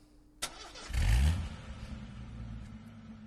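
The engine of a new Ferrari Turbo Cabrio Energizer sports car fires up after a sharp click, roars through one loud rev, then settles into a deep, steady idle rumble.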